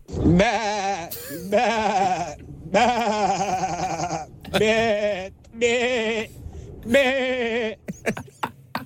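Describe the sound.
A voice imitating a flock of sheep, sent in as a voice message about eight seconds long, gives about six loud, quavering bleats in quick succession. Each call shifts in pitch and character, with brief gaps between them.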